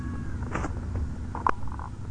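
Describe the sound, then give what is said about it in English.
A cat meows, with two short calls, the second sharper and louder, over a low steady background hum and no talking. “Meow.”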